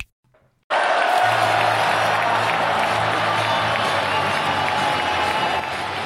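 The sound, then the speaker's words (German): A large stadium crowd of TSG 1899 Hoffenheim football fans roars and chants in celebration of a 5:1 win over Holstein Kiel, starting abruptly after a brief silence and staying loud and dense throughout, with a low sung chant running under the cheering. “Mit diesen Jubelgesängen begrüßen wir euch ganz herzlich zur 90. Folge von Hoffefunk nach unserem furiosen 5:1 gegen Holstein Kiel.”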